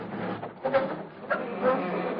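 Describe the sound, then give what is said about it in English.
A garage door is opened gently, creaking with a rattling mechanical rumble and broken by two short squeals about a second apart, moderately loud throughout. “I'll open the garage door real easy.”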